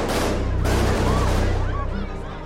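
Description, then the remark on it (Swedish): A rapid burst of submachine gun fire, loud, fired into the ceiling of a bank at Norrmalmstorg in Stockholm, Sweden, by a man in a wig and sunglasses, shortly after 10 a.m. on 23 August 1973; shots rattle for a couple of seconds while voices cry out beneath the shooting. “Plötsligt avfyrar mannen en skottsalva i taket.”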